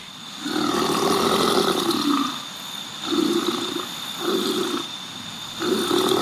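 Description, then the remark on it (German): A lovestruck crocodile at Australia Zoo, courting a female, makes low, bubbling grunts in four rumbling bursts, a long one followed by three shorter ones, gurgling and throaty like snoring through water, with steady hiss behind. “Also ich bin direkt verliebt in dieses Krokodil. Ich finde, es klingt nach Sodbrennen. Es blubbert so ein bisschen, ne?”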